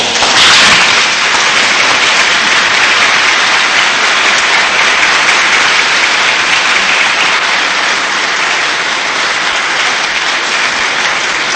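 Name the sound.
applause in church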